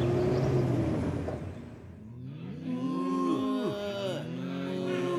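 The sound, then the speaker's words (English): A cow moos loudly, a long drawn-out bellow with a wavering, sliding pitch. It follows a stretch of rumbling, engine-like noise at the start. “Mrs. Mac would like that cow.”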